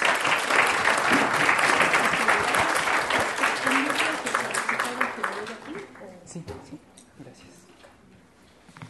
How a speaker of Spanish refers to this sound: Un aplauso para ella, por favor.